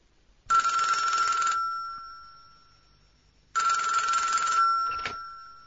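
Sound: telephone ringing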